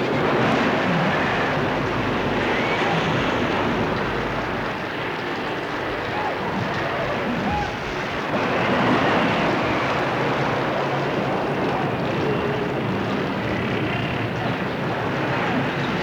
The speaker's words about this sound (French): La pluie tombe. Les hommes, avec des cirés, sont trempés par la pluie. Ils soutiennent la paille. Et tentent de faire avancer un véhicule. Embourbé. Des moutons, des hommes, des chevaux. Sous la pluie torrentielle.